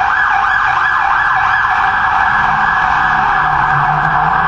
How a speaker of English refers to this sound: And boy, are the ambulances and fire trucks and the like busy today.